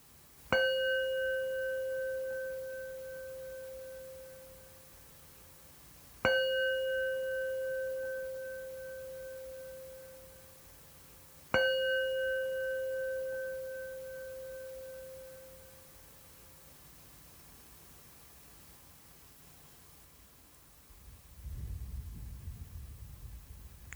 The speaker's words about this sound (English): And I'm going to ring the bell 3 times, and you're invited to listen closely to the sound as it goes into silence.